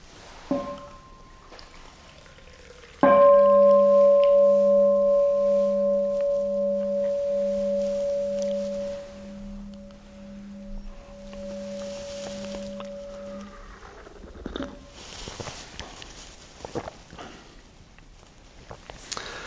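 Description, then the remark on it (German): A single bell is struck once, ringing out with a clear, steady mid-pitched tone and a low hum beneath it, slowly fading over about ten seconds before quiet rustling follows. “Dann hören wir nochmal eine Glocke und kommen dann zum dritten und spannenden Teil.”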